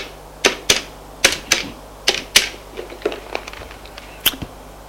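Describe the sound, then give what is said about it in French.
A telephone number being dialed on the telephone in a large, bright hospital office furnished with glass furniture: a quick series of sharp plastic clicks, mostly in pairs, with a few softer taps in between, over a faint low hum. No one speaks. “Son téléphone et fait un numéro.”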